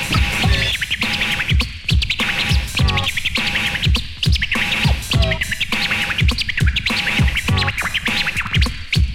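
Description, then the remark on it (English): Rapid turntable scratching of a record by a DJ, with quick, high-pitched chirping strokes that mimic bird calls, repeated in a steady rhythm over a pounding beat, loud. “Now make it sound like a bird. Now make it chirp.”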